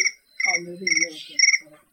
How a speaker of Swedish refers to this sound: Det lät som en gräshoppa, det där.